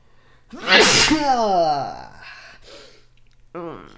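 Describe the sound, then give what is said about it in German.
A single loud sneeze bursts out sharply, trailing into a strained vocal exhale, followed by a brief quieter vocal sound a moment later. “Ich habe nämlich jetzt mal voll geniest”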